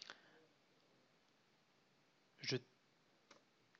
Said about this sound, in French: Voilà, j'ai tapé une touche au clavier et la fenêtre s'est directement fermée.